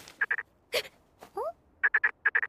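A frog croaks after the rain has stopped, in quick bursts of three short, rattling pulses, repeated several times, with a brief rustle and a rising squeaky chirp in between.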